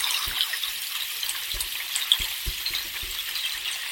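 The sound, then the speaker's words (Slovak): Spring water trickles steadily over small stones, a continuous bright, fizzy babble with occasional soft low knocks, with no voices. “Ale stále ich je tu dostatok a tá vodička stále tečí a spoznáva, spoznáva.”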